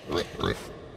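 A pig gives two quick, throaty grunts in a row, fairly loud, followed by a brief quiet tail with no talking.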